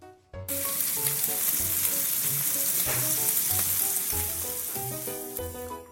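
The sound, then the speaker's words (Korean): Steady sizzling of opened canned ham frying in a pan in a kitchen, starting abruptly after a brief quiet moment and crackling continuously with occasional pops, with faint low tones underneath and no talking. “즉석밥은 전자레인지에 돌려놓고 깡통햄은 따서 구웠다.”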